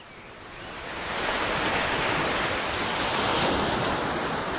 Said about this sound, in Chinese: 田螺姑娘说完了这句话，天空中突然刮起了一阵大风。一阵风雨过后，田螺姑娘早已不见了踪影。